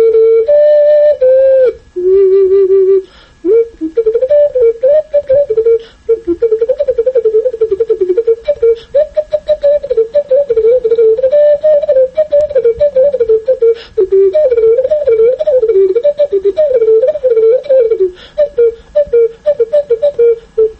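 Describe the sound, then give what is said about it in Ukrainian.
A powerful, massive ceramic cuckoo whistle from Kosiv, a Hutsul pottery tradition, is blown loudly and continuously for about twenty seconds, playing a warbling mid-pitched tune full of quick bird-like trills and slides, with only brief breaths between phrases. “Зозулька, я би хотів накувати. Це косівська зозуля, досить така потужна, масивна.”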